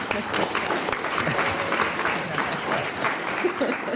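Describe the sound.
Steady, sustained audience applause, a dense wash of many hands clapping at an even, moderately loud level throughout, with a faint murmur of voices mixed in.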